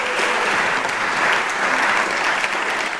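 An audience applauds steadily, a dense, even wash of many hands clapping that holds at a fairly loud level throughout without fading or swelling, with no voices audible.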